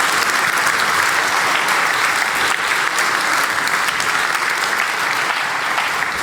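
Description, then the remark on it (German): An audience at the GPN event applauds the Chaospost steadily for about six seconds, a dense, even wash of many hands clapping at full loudness with no voices over it. “Genau, Applaus für die Chaospost.”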